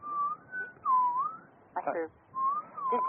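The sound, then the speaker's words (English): Someone whistles a wavering, sliding tune in several phrases, with a brief burst of voice breaking in between; the whistling is clear, rising and dipping in pitch. “I can hear whistles, but I don't know. I don't know where they're coming from either.”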